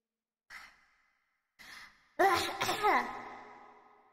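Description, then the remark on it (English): A person takes two quick, breathy inhales, then lets out a long, loud, voiced sigh that trails off slowly, with no talking. “Bigger breath? Breathing feels really weird right now.”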